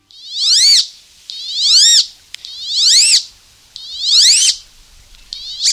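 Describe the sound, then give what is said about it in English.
Calls of a male wood duck, a North American duck: a series of loud, squealing, upslurred whistles repeated about five times at a steady pace, each rising then dropping sharply, heard clear with no talking. “But the wood duck was once threatened with extinction.”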